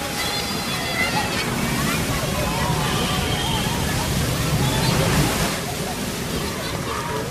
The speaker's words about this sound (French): Bassam en vivait dans son calme continuel, bercé par le bruit des vagues qui se brisaient sur la grève.